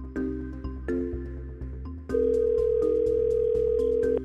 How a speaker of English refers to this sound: You're going to take a deep breath. The phone's going to ring again. Ready or not?